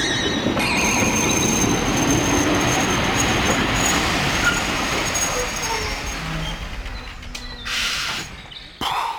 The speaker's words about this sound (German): Das war knapp. Erst kurz vor der Tunneleinfahrt ist der Zug stehen geblieben. Der Lokführer flucht über das unvorhergesehene Haltesignal.